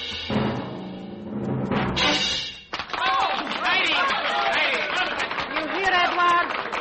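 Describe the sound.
Music swells and cuts off, then an audience breaks into loud, sustained applause mixed with shouted cheers and excited voices, continuing steadily to the end.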